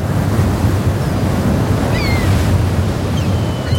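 Rough sea surf crashes and churns continuously while a strong wind roars over it during a big storm with heavy swell and poor visibility, a loud, steady wall of low rumbling noise with no voices.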